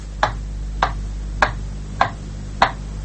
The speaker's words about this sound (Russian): Радио придумало метроном, этот звучащий пульс города.